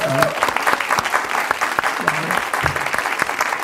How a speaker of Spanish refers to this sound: Déjame. Un aplauso al hombre.